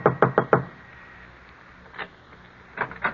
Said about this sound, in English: Finally, he comes to an apartment house, climbs to the top floor, and knocks on the door.